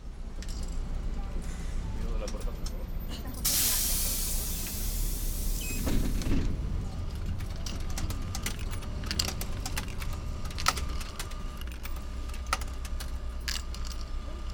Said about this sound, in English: Well, we're on the 152 bus going through Núñez in Buenos Aires, heading towards Belgrano and Palermo.